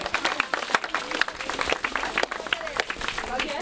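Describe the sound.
An audience applauds in a dense, steady patter of many hands clapping that lasts the whole stretch, with a few voices calling out underneath.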